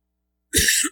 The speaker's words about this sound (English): And you will have to excuse my cough this morning, I think. I wish that wasn't the case.